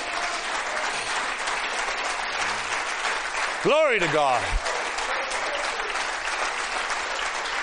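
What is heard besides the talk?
audience clapping hands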